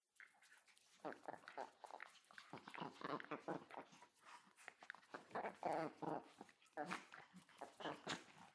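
A service dog, one of two (a miniature American Shepherd and a long-haired Chihuahua), whimpers and whines in a steady run of high, pleading cries across several seconds, with soft shuffling movement mixed in.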